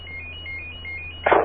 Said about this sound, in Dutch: Telefoon even wachten, hoor.